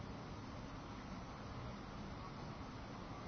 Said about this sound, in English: The traffic sounds are taking place. In your silent presence.